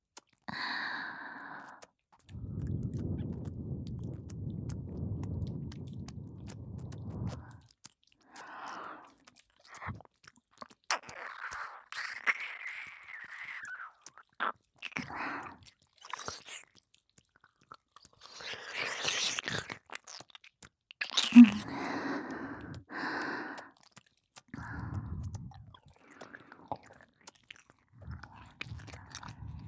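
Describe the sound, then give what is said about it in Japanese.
Wet licking and mouth sounds come in irregular bursts, mixed with long, soft breathy exhales and sighs. The texture is moist, with no spoken words. “なめなめしながら吐息もたっぷり、”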